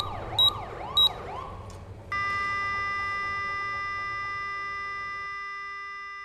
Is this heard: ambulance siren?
yes